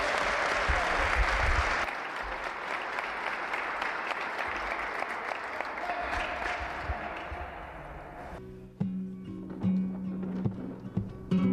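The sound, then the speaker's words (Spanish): An audience applauds a sports team's players with steady, dense clapping for about eight seconds, fairly loud, before the applause drops away and gives way to quieter, more tonal sounds. “Un aplauso muy grande para ellos.”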